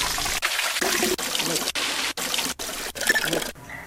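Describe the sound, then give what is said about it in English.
A water fountain trickles and splashes steadily, fairly loud, the same short stretch repeating with abrupt little breaks between loops. “Loop water fountain. Loop water fountain 1.”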